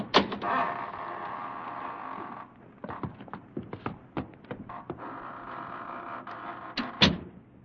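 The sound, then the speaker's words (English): A heavy door creaks slowly open with a long, grinding groan, broken by clicks and knocks of the latch and hinges, then a second drawn-out creak and a final thump. No voices. “Here we are, gentlemen, at death's private door. Shall we enter?”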